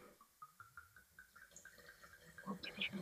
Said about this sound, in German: Deswegen können wir gleich mal den nächsten Wein einschenken mit einer sehr schweren Flasche.